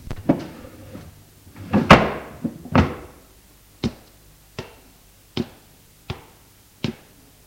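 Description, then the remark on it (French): Wooden furniture clatter: a few scraping, thudding knocks of a sideboard drawer being shut after a hand mirror is put back in it, followed by five evenly spaced sharp taps, fairly loud with no voices. “Puis, remit la glace dans le tiroir du buffet et se rassit.”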